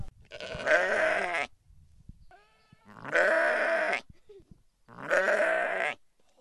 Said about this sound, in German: Es gibt drei graue, eins hat einen schwarzen Kopf, ein weißes und ein ganz braunes. Das sind rauwollige Pommernschafe, die dunklen, und die anderen sind Islandschafe.